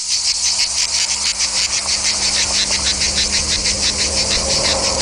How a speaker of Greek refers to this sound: Ο Τζίτζικας με τις μεγάλες του διάφανες ηριδίζουσες φτερούγες και εκείνο το ακούραστο, αδιάκοπο, επίμονο, ώρες-ώρες, εκοφαντικό θαρρής, τερέτισμά του.